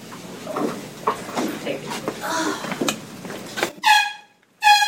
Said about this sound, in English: The air horn represents gunshots. After shooting the two Coast Guard personnel downstairs, the bad guy goes upstairs to the main office area.